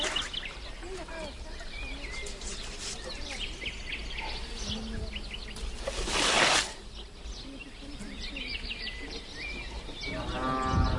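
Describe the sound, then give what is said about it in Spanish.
A cow, used by an elderly farmer with a Roman plough in Moveros, lets out a single low, drawn-out moo near the end, over a busy outdoor farm backdrop of birds and insects, with a brief loud rustling burst midway. “algún abuelo, estos abuelos, labra con vaca y arado romano.”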